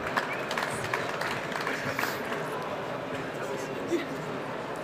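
Steady audience applause fills the whole stretch, a dense, even patter of many hands clapping at once, with a faint murmur of voices underneath and no single clap standing out.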